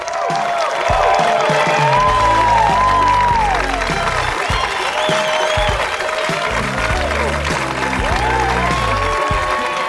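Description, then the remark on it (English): A large audience claps and cheers steadily for the full stretch as a stand-up comedian is welcomed to the stage, a dense, sustained wash of applause mixed with loud upbeat music playing over it. “Oh my God, thanks for clapping for so long.”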